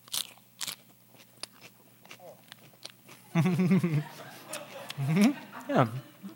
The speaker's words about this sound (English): So stir it up, kind of agitate the salt, get it all over there, and we're going to dip the karpas and then, of course, put it in our mouths.